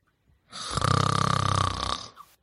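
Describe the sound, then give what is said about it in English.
A single loud, drawn-out snore sound effect lasting about a second and a half, with a rapid rattling flutter throughout, alone with no talking. “So snore on Don Snorleone, but stay woke on this motherfucker and what the fuck they're saying.”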